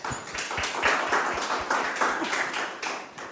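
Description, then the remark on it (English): An audience at the Apache Europe Conference applauds steadily for a few seconds to open a session on the Apache Way, many hands clapping together in a dense, continuous patter with no voices over it. “Please give a round of applause and we'll begin with the session.”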